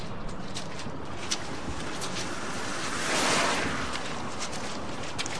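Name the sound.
rain at night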